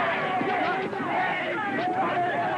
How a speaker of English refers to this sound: The arrest riled the crowd.